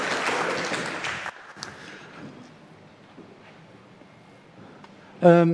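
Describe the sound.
Dense audience applause fills the first second or so, then stops abruptly, leaving a low murmur of background noise before a man's voice starts speaking at the end.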